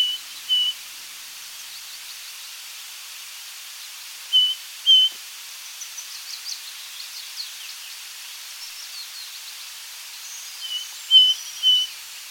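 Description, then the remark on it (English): A male ring ouzel sings: short, clear piping notes delivered in sparse bursts with pauses between, plus fainter twittering, over open, quiet ground with no one speaking. “And you're listening out in these huge valleys for quite a vague little song from an individual male bird, and let's play that now.”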